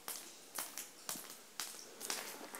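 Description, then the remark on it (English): Water drips in a cave on a tour route, five sharp, bright plinks falling at a steady pace about half a second apart, each fading quickly into a soft hiss, captured on a recorder. The drips are fairly quiet, with no talking. “After climbing a decent chunk of them, I try to capture a particularly good cave drip on my recorder.”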